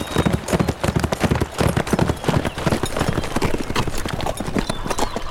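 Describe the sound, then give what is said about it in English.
The hooves of Stormy, a horse ridden by Frank, clip-clop along a trail toward San Ramo in a steady, brisk rhythm of sharp, repeated knocks that stay loud and even throughout, with no voices over them. “Then he lifted Stormy's reins. Let's ramble on, Stormy.”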